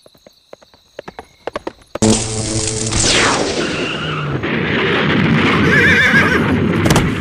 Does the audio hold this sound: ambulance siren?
no